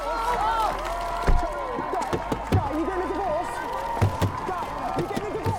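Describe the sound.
A reporter bangs on a car window: sharp, irregular thumps, several in quick bursts, heard over a steady hum of crowd chatter and overlapping voices.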